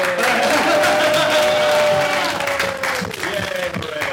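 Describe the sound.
An audience at the Hollywood Fringe Festival bursts into sustained applause, dense steady clapping lasting about four seconds, with a few voices cheering and whooping over it before it eases slightly at the end.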